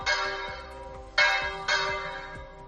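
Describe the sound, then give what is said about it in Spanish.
Church bells of the parish church of Tortuera, Spain, in the diocese of Sigüenza-Guadalajara, ring from a tower at one in the afternoon in support of the protest of rural depopulated Spain, with three strong overlapping strikes whose bright metallic tones linger and decay into one another. The ringing is clear, with no voices. “Es el toque de las campanas de la parroquia de Tortuera.”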